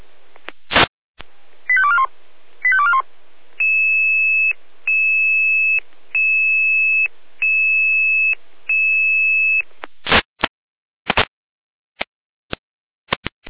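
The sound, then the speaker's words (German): Fire brigade alerting tones from Jena calling out the volunteer fire brigade of Lindig to a fallen tree: a couple of quick warbling chirps, then five long, steady, high-pitched beeps in an even rhythm, ending with scattered sharp radio clicks. No one speaks. “Jena mit Alarmierung.”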